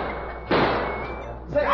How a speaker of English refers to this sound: Holy crow! Did you hear that? Somebody got shot.